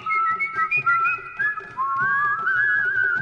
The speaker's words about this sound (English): there were blacks lounging against the walls sort of looking at whites as the whites were walking along the streets and whistling. And then just doing interesting little things with the pitch and with the volume of the whistling.